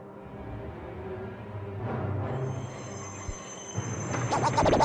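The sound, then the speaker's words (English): A train being brought out from 16 rumbles slowly along the rails, its low mechanical drone building as a thin, high metallic wheel squeal sets in and holds, with rhythmic clanks picking up toward the end. “Brown and Walker, bring the train out from 16, try.”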